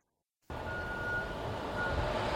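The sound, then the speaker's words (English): A heavy truck rumbles past on the road after a moment of silence, a loud, steady low engine roar with a faint whine on top, without voices. “The thing about watching so many cars and trucks go by, it's so demoralizing because I can't see people.”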